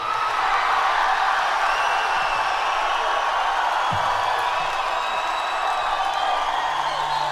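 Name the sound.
audience cheering and applauding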